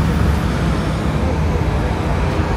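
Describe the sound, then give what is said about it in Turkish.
A city bus, route 22, pulls away from a stop right in front of the listener in light rain, its heavy engine rumble steady and loud for a couple of seconds amid a constant wash of street traffic. “Biraz önce tam önümden size duyduğunuz gibi 22 gittiği için bir miktar bekliyorum.”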